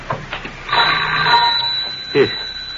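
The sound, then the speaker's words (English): A doorbell at a front door, rung by a messenger boy, gives one sustained, bright metallic ring lasting over a second, fading out before a short burst of a voice at the end. “He'll be ringing the bell any moment now.”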